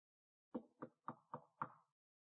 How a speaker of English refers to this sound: One day as you're walking the hallways of your heart, you hear a knock on the front door.